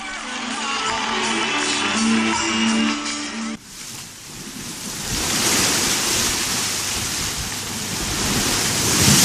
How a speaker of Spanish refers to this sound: Sonidos del mar nuevamente, a bordo del buque oceanográfico Hespérides.